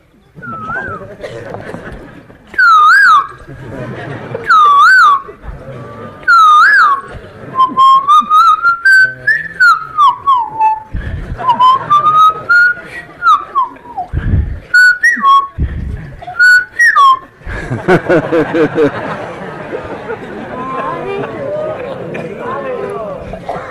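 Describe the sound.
A person whistles an imitation of a kokila (cuckoo) bird: short, bright swooping calls repeated several times, then longer warbling runs of trills, before the whistling gives way to a burst of noisy chatter.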